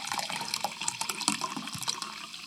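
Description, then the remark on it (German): Water is poured steadily to refill an emptied glass of water, a continuous splashing trickle with bright gurgling bubbles that carries on without a break. No one speaks. “Wenn das Glas Wasser leer ist, Sie schenken nach.”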